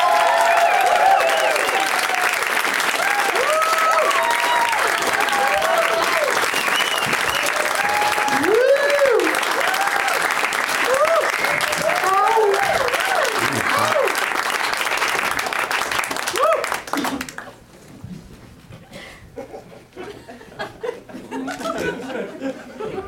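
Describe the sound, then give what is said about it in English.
A large audience applauds loudly and steadily, welcoming four guests, with whoops and cheers rising above, lasting about seventeen seconds before dropping off abruptly to quieter chatter and scattered voices. “Please give a big, warm welcome”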